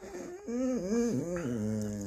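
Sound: dog whimpering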